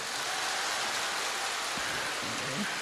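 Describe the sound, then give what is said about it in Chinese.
A large audience applauds steadily, having been asked to clap if they like listening to the station head, a dense, even wash of many hands clapping at once that holds at a constant loudness for the whole stretch without fading. “请大家喜欢听台长的人鼓掌。”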